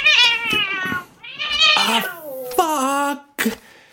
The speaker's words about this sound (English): Sorry, my cat is sitting right by the microphone. Let me just... Usually doesn't go well to try to move her, but let me just go...